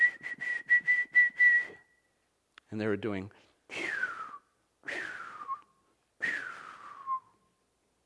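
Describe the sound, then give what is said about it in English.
A person whistles like chirping birds: a quick run of about six short, high, steady-pitched chirps, a brief spoken phrase, then three longer whistles that slide downward in pitch. “They were chirping.”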